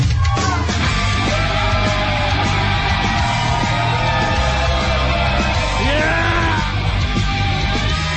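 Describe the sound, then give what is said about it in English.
A dense bar crowd at Hennessy's Tavern in Hermosa Beach cheers and yells without letup, loud overlapping shouts and whoops rising and falling over a constant roar of many voices and a low rumbling hum. “Oh my God, what a crowd.”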